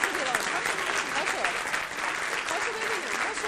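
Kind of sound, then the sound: crowd, audience applause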